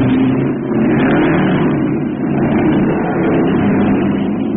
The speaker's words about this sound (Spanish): Con precisión exacta, Calimán hace cambio de velocidad, logrando frenar un poco el auto. Pero la velocidad aún es vertiginosa.